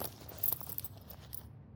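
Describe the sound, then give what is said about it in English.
A zipper is unzipped by a person's mouth biting onto it, in short, uneven bursts of faint metallic ticking and rattling over about a second, quiet, with no voices. “Come on. Unzip it faster. That's it.”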